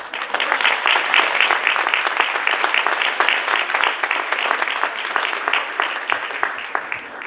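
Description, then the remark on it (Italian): A crowd applauds steadily for several seconds, with dense overlapping claps holding an even loudness from start to finish. No one speaks over it. “Se mi fate un applauso, perché devo bere.”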